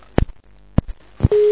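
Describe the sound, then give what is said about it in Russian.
A few sharp clicks and clunks of a telephone handset being put down as the other party hangs up, followed by a steady, loud telephone busy tone that begins near the end and continues to the cutoff. “Скотину трубку положил.”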